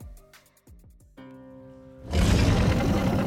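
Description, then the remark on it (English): A dragon in the Miledeep cave: a few short, low growling grunts lead into a sustained rumbling tone, then a loud, harsh monster-like roar bursts out and holds to the end, with no talking. “With no light to see, I shall follow the sounds of the roars.”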